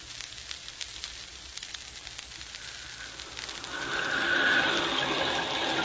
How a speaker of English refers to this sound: Look at that rain, Crawley. It's just what you ordered, sir. And down there in the valley, the lights glow cheerfully through the rain.